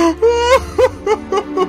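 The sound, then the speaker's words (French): A voice acts out exaggerated crying: a long sobbing wail followed by a series of short, rhythmic whimpering sobs, fairly loud, with no words spoken. “Il pleure durant tout le trajet jusqu'à son palais.”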